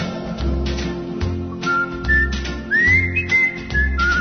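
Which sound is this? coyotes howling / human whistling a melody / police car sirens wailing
human whistling a melody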